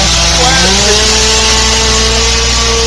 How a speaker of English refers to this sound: Today, our camera was rolling when the brave tree cutter took his chainsaw to the branch with the hive.